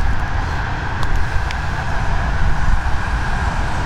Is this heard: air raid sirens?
no